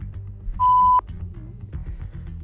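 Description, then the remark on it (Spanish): A single short, steady electronic ringing tone of a call to a mobile phone sounds loudly for under half a second over a low, murmuring background, with no one speaking. “Tenemos otro móvil, vamos a llamar al otro.”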